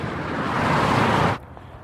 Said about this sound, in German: Die Autobahn macht eben viel Lärm. Besonders ist an dieser Stelle in Berlin-Baumschulenweg, dass hier eine begrünte Lärmschutzwand die Geräusche einigermaßen gut abhält.